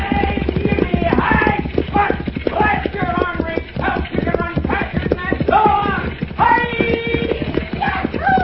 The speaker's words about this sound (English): See, and a stagecoach coming down the mountain road. Mm, come fast, it's good. Coming much too fast.